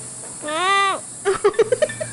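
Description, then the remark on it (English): A baby sloth gives one drawn-out, high-pitched bleating squeal, then a quick series of about six short squeaky peeps, all over a steady background hiss. “Is it a baby goat? It's a sloth.”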